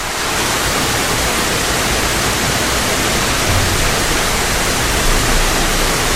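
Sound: heavy rain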